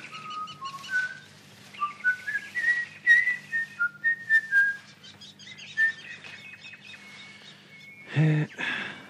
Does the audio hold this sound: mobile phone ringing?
no